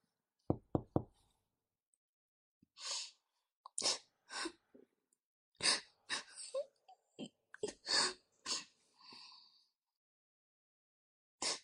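Three quick, sharp knocks on a door, fairly loud, followed by a string of irregular soft rustling and shuffling noises with no one speaking.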